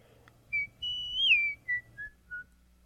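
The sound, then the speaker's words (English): An executioner in a dungeon whistles a short, meandering tune while idly swinging his axe, a few clear notes with one long sliding note in the middle, then trailing off into brief chirps. Nobody speaks. “The executioner was whistling and swinging his axe idly, because at the moment he had nothing to do.”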